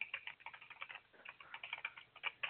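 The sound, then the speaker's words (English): Rapid, continuous clicking of computer keyboard keys, a quick irregular patter of light taps and clacks with no voices, steady throughout with occasional slightly louder strokes. “Okay, you guys, do you hear her clicking on her, like, computer over there?”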